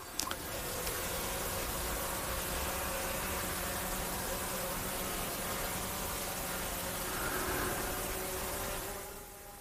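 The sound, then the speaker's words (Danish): Drones flying overhead at the Born Hack festival, probably over the site taking pictures, make a steady, noisy mechanical whir with a faint tonal hum, holding constant for nearly ten seconds before fading slightly at the end. No one speaks. “der kan man høre en lyd, som på mange måder hænger godt sammen med Born Hack, nemlig lyden af nogle droner, der ligger og flyver sandsynligvis ind over pladsen, hvor de prøver at tage billeder.”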